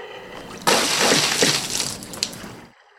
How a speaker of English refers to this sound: You're supposed to jump in the boat, not the river. I'm soaked.